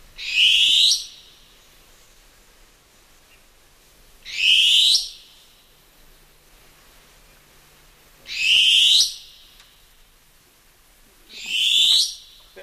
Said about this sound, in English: But look, let's play the call of the long-tailed cuckoo for our listeners.